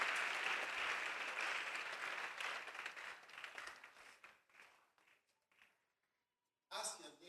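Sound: audience applauding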